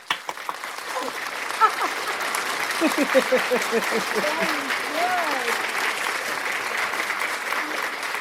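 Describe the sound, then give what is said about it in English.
Steady canned applause runs for about eight seconds at an even, full level, with faint cheering voices rising briefly through the clapping midway. “Let's give us a round of applause.”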